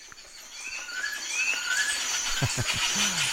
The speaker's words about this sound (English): Here's Tropical Birds.